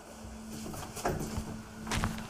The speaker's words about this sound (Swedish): Vi knackar, men Neila öppnar inte. Den bruna dörren förblir stängd.